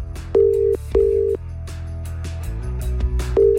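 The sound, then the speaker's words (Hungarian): A phone dials with a few short keypad tones, then a steady ringing tone purrs over a low background hum while the call waits to be answered. “Reméljük, hogy felveszi a telefont.”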